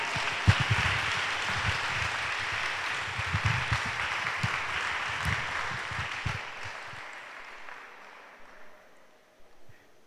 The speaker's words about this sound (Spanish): Así es que le damos un fuerte aplauso al Espíritu Santo.